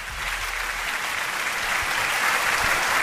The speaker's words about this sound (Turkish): Bugün aynı zamanda 5 Nisan. Alkışlar, 5 Nisan nedir? 5 Nisan Türkiye Avukatlar Günü'dür.